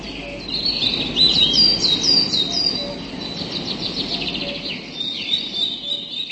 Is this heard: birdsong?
yes